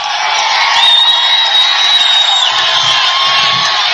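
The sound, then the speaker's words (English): A large crowd at a Donald Trump rally roars and cheers continuously as he arrives, with whoops and shrill whistles rising above a dense, loud wall of voices that holds steady throughout. “This is a big crowd.”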